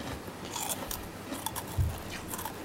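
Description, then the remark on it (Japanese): Crisp, crunchy bites into food: several short crackling bursts scattered across the moment, with one heavier low crunch near the end, fairly quiet overall and with no talking. “歯触りがいいよね。”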